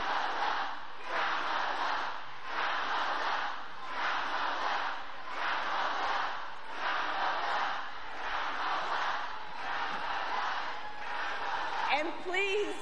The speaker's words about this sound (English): Now the crowd tries to shout down the protesters, and Harris is smiling.